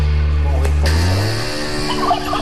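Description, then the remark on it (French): Loud real hens clucking and squawking in a dense flurry as they lay eggs at the end of a song, with a warbling, gobble-like quality that almost suggests a turkey; no one speaks. “mais à la fin, ce sont de vraies poules qui pondent.”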